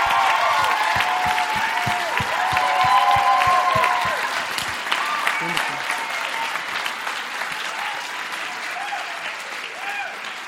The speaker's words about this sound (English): So give Kat a huge round of applause as she comes forward.